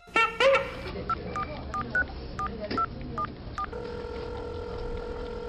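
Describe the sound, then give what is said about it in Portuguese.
A quick run of about eight telephone keypad dialing tones, short beeps at uneven intervals, followed by a steady sustained line tone as someone places a phone call. Clear, with no voices. “Pego o telefone e faço uma ligação.”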